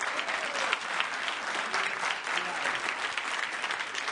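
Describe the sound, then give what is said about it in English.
A crowd applauds steadily for about four seconds, a dense, even patter of many hands clapping at a moderate level with no pauses and no voices standing out. “What? That's all the applause I get?”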